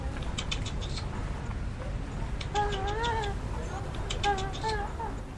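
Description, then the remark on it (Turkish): Two short bursts of wavering, pigeon-like cooing calls from a pigeon on a rooftop stand out over a steady outdoor hiss, with faint clicks and taps scattered around them. “Savaş güvercini çağırıyor.”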